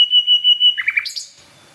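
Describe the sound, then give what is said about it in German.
A nightingale sings at a nightingale hotspot: a sustained pure whistled note pulsing several times, then a quick run of rising chirps and trills before falling silent, with no voices present. “Also ich stehe jetzt bei der Hotspot Nachtigall.”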